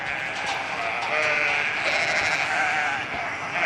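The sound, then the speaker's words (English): A large flock of thousands of hungry sheep on a 4,500-hectare farm bleating together, a dense overlapping chorus of loud, steady baas that fills the whole stretch without pause, with no talking. “There are thousands of sheep on Richard Martin's farm, and they're hungry.”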